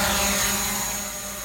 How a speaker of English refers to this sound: Sorry, I couldn't hear you over the sound of my drone flying. I'll turn it off and get back to the episode now.